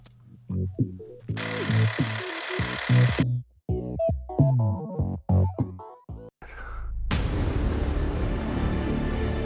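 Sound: movie trailer explosions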